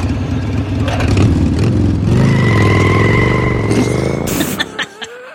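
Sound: motorcycle engine revving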